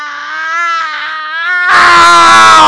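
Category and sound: human body sound, woman screaming in pain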